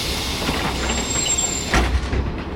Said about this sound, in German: Der Hop-on-Hop-off-Bus schaukelt weiter, direkt zum Fuß der Chephren-Pyramide, wo Touristen neben den einzelnen Steinquadern wie Spielzeugpüppchen wirken.